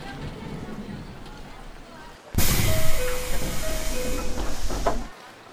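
A train runs on its rails, a loud rushing roar that kicks in abruptly and carries a stepped electric whine before dropping away near the end, over a quieter background hum.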